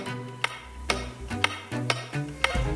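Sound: clock ticking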